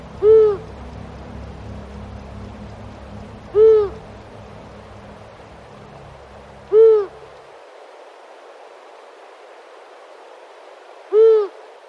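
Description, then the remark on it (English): A long-eared owl gives four low, evenly spaced hoots, each about three seconds apart, clear, over a faint low rumble that fades out partway through. “So we didn't see, and most of and Michael and I didn't hear the long-eared owl.”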